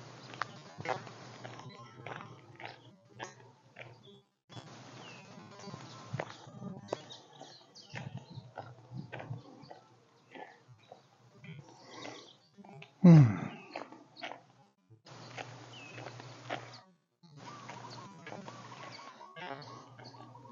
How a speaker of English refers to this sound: As I said, there's a lot of birds chirping, so I'm interested to see if anything gets picked up by the White House. I'm thinking it won't.